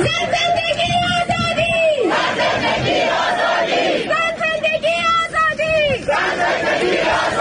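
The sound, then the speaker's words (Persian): A large crowd at a rally in Ottawa, Canada, in solidarity with the protests in Iran, attended by Prime Minister Justin Trudeau, chants a slogan in loud unison, the same sustained phrase rising and repeating in two rhythmic waves, with shouting and crowd noise between them. “جاستین ترودو نخست وزیر کانادا و همسرش روز شنبه 7 آبان در تجمع همبستگی با اعتراضات ایران در اتاوا شرکت کردند.”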